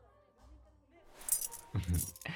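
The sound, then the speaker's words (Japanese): A bunch of keys, obtained from a shop staff member, jangles in two short, bright metallic bursts, separated by a brief pause, over a quiet background. “さっき店員さんに鍵もらっといたから。”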